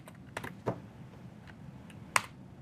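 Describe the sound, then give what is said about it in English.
A handful of sharp, irregular clicks from keys being pressed on a computer keyboard, fairly quiet, with one louder tap near the end and no voices. “My keyboard apparently decided that it didn't want to work.”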